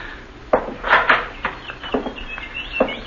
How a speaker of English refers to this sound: Quite a collection of canaries you've got here.